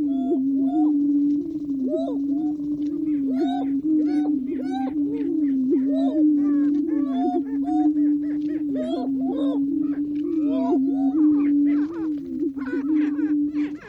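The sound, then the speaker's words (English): Male prairie chickens display in chorus at the Prairie Chicken Lek in the Nebraska National Forest at dawn: a steady, low, hollow booming drone runs throughout, with frequent higher cackles, whoops and clucks breaking in over it. No one speaks. “Nature recordist Lang Elliott got up at the crack of dawn and set up his equipment at the Prairie Chicken Lek in the Nebraska National Forest to record the males strutting their stuff.”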